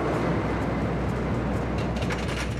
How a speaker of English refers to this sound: The train is hoisted to the top of a 20-meter incline by chains. When it's released, it will be propelled by its own weight, gathering enough momentum to complete the circuit.